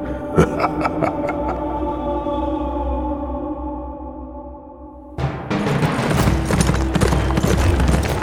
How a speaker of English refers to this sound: Horse and rider jolted to a stop in the inner ward yard. Squires dashed up to take the king's well-lathered mount.